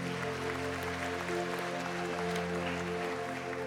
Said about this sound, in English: Whether you make coffee, you open doors, you help with chairs, you help with kids, just thank you so much. Like, yeah, we'll clap for those people. Yes. There you go.